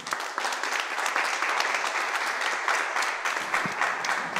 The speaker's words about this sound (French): Pour le spectacle, nous étions vraiment stressés. Mais quand tout le monde a applaudi, nous étions heureux.